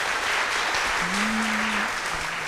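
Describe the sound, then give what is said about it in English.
An audience applauds steadily for a couple of seconds for a Raspberry Pi decorated with sparkly leaves and glitter dots, a dense, even patter of many hands clapping, with a faint low hum rising briefly beneath it partway through. “Very applause.”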